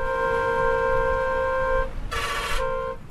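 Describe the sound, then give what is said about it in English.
In Pakistan, a giant truck's horn blares in a long, steady multi-tone blast over low engine rumble, breaks off, then a harsh burst of hissing noise before the horn sounds again as the truck rumbles by. “It's my first trip to Pakistan, and every time I see a giant truck rumble past me, I just have to take a picture.”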